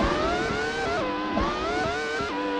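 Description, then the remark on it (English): A motorcycle engine in a racing video game made by Codemasters whines at high pitch, its revs climbing and dropping repeatedly with quick gear-shift dips, loud and steady throughout with no voices. “See, that sounds more like a motorcycle.”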